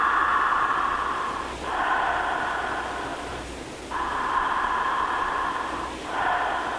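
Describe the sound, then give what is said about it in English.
Slow, audible breathing through the mouth during a guided breathing exercise, with long, airy, hissing breaths that swell and fade in a steady wave-like rhythm, about three full cycles separated by brief pauses, with no talking. “And just remember that the breath is like a wave.”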